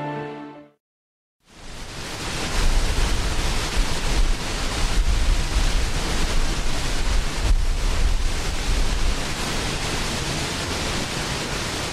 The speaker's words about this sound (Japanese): 133メートルの落差を誇る那智の大滝です。